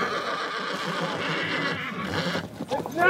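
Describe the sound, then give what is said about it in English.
Several horses arrive for the start of a 50-mile race amid a busy, noisy outdoor bustle, with a sharp whinny rising near the end and a muddled clatter of movement throughout. “Horses start arriving.”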